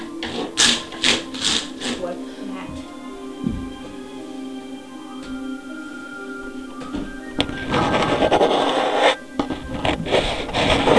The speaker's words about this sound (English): Sounds like scratching to me.